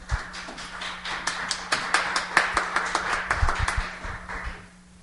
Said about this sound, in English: You guys want to give her a little cheer?